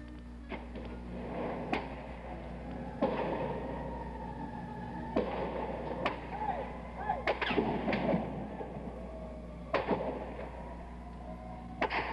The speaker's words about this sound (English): Ambulances screaming all over the city, and more sounds, more shots being fired at the tower, on the tower, on the mall, amid the empty carton of shells.